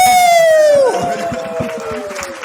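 A crowd applauds and cheers, opening with a loud, sustained whistle that slides down in pitch, followed by steady, dense clapping and cheering.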